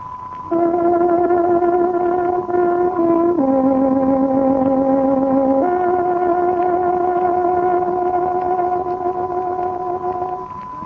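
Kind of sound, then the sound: signal or alarm, tárogató radio time signal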